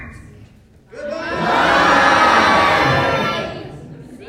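A large crowd yells "Goodbye!" together in one loud, sustained group yell that swells quickly after a quiet moment, holds for a couple of seconds, then fades away.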